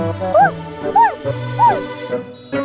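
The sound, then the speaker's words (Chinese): A puppy, Doudou, barks three times in quick, evenly spaced, high-pitched yaps, clear, over a steady low background drone. No one speaks. “原来是小狗豆豆在叫。”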